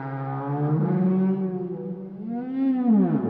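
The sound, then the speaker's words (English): Low, drawn-out whale calls moan continuously underwater, their rich harmonic tones sliding slowly down and then swelling upward again, fairly loud and resonant with no voices present. “To communicate, whales typically use clicks, whistles, and pulsed calls, which can travel for miles underwater”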